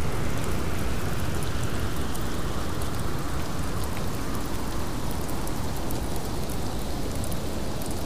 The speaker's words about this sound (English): They sat there a little while more without saying a word, just listening to the wind and the rain. Well, now it wasn't raining as much as it was before, but oh yeah, the occasional thunder continued.